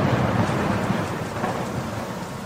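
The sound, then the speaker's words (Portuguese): Heavy rain pours in a steady, dense roar with a deep rumble of thunder rolling underneath as a sudden storm with wind whips the Lake of Gennesaret, loud throughout, with no voices. “Adensadas, as nuvens de gás leve tornaram-se tenebrosa tempestade, e o lago esqueceu a calmaria, encrespando-se, açoitado pelo vento.”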